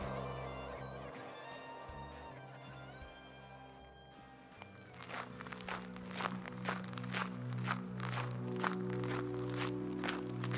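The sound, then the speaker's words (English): After a few seconds of sustained musical tones, steady walking footsteps of someone walking to a bus stop begin, about a dozen firm, evenly paced steps continuing over the soft music bed until the end. “I walk to the bus stop.”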